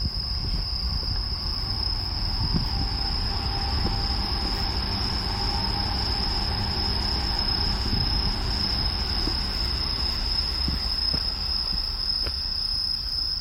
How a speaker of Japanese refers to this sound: あ、そこに線路があるんだね。 通ったらうるさいだろうね。 ここは今電車来てほしくないね。おい、 来るね。 向かってきてるじゃん電車。